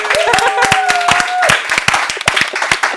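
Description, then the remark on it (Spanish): A group claps in a quick, dense burst of applause that stays loud throughout, with a voice briefly calling out over the clapping near the start. “Y luego me un aplauso para mi amiga.”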